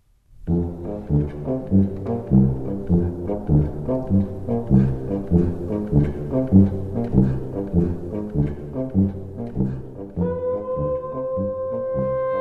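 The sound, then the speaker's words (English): Deep, droning foghorn tones pulse in a rhythmic, layered pattern, then settle into one long, steady horn blast near the end. Loud and resonant, with no voices. “That's the sound of a foghorn recorded by Ben Trefney and a dripping tap”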